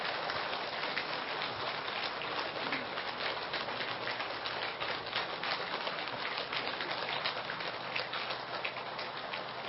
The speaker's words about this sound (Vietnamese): Toàn thể đạo tràng dương cao một tràng pháo tay để cung đón Thượng Tọa giảng sư của chúng ta quang lâm pháp tòa.